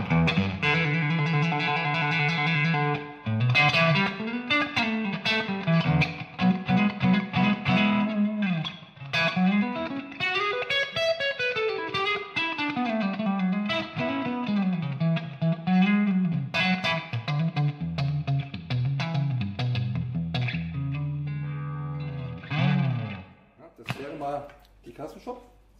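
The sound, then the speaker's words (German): A Fender Custom Shop electric guitar played on the neck pickup: a fluid melodic run with bends and vibrato, steady and fairly loud, with a few sharp plucked notes at the end and no voices. “Also ich fange mal an mit der Custom Shop. Fender Custom Shop, ja.”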